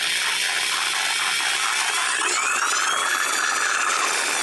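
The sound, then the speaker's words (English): An electric saw, of a kind used to cut through metal, wood, bone and tissue, runs steadily for the whole stretch, a loud, harsh buzzing grind with a rising whine that shifts in pitch partway through. No one speaks. “Jeff Horney, I don't know how you can sit there and look at that saw”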